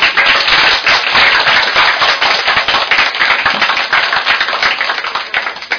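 A crowd bursts into sustained, dense applause, many hands clapping rapidly and loudly throughout with no voices heard, warmly welcoming a speaker, evenly from start to finish.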